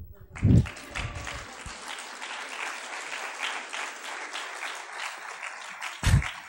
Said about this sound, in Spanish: Aquí a veces en Galicia la gente aplaude.